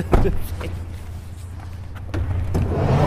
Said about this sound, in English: I'm just getting out of the cab. Thank you. Thank you. Thank you, Mr. Cab Driver.